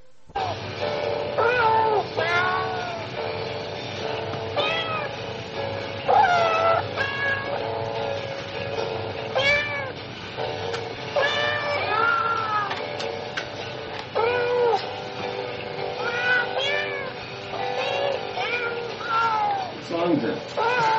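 Cat meows pitched and stitched together into a bouncy Christmas tune, played from a recording on a tape, with a steady ticking beat underneath; continuous and bright, with no one talking over it.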